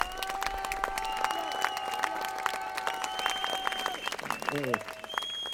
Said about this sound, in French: Il faut maintenir vos applaudissements pour les habitants locaux